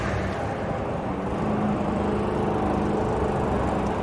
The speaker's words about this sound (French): et tous les samedis d'été, mon père passait à la tondeuse, comme tous les voisins d'ailleurs. Il y avait des bruits de moteur partout, des tondeuses à droite, à gauche.